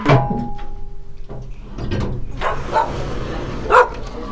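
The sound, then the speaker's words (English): A dog barks several times at irregular intervals, moderately loud, with a couple of sharper, higher yips near the end and no one talking. “This is actually the dogs processing right now.”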